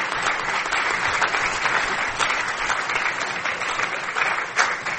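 Sustained audience applause from a sizable crowd, a dense, even wash of clapping that holds steady for several seconds with no one speaking over it.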